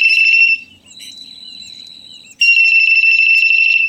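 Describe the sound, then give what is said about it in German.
A starling in an orchard meadow gives sustained, high, pure whistled tones that shift pitch in three steady segments, sounding almost electronic like a mimicked mobile phone ringtone, loud over a faint low rumble. “Sie können zum Beispiel andere Vögel oder bellende Hunde imitieren und sogar Handyklingeltöne.”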